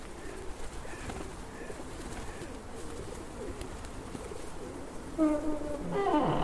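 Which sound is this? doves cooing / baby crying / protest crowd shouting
doves cooing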